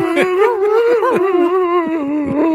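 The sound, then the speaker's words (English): A person's voice makes a sustained, wavering, high-pitched whine, imitating a whimpering puppy-like cry. The cry is loud, with small pitch wobbles and no words, lasting a couple of seconds. “I was more of the quiet, like, whimper kind of crier.”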